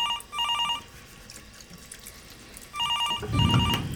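A telephone rings twice at Sotheby's Collections Department in trilling electronic bursts separated by a pause, clear, with running water from a sink splashing underneath and swelling toward the end.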